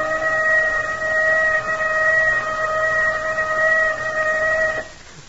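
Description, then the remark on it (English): A loud, steady whistle holds one unwavering chord-like tone for nearly five seconds over a low rumbling background, then cuts off abruptly. “There's that whistle.”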